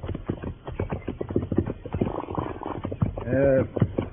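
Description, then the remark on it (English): Horses' hooves clip-clop in a steady, rhythmic walk as riders travel on horseback, with a brief tonal vocal sound rising over the hoofbeats near the end. “Hey, there's a creek up ahead. We can water the horses and rest a spell if you like.”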